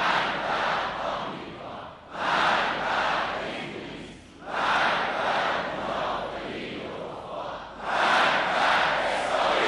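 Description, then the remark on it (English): A large crowd chants "death to America" and "death to Israel" in unison at a rally after a speech by Ayatollah Ali Khamenei, loud roaring phrases rising in four surges with short dips between them, filling the whole stretch. “The crowd followed with the usual "death to America" and "death to Israel" chants.”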